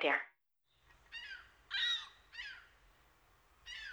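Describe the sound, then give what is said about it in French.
A gull passing overhead on Jean Talon in March 2021 gives four shrill, descending cries in quick succession, fairly loud, over a low rumble of city traffic, with a brief sharp sound just before the first call. “Sur Jean Talon, un goéland passe au-dessus de ma tête.”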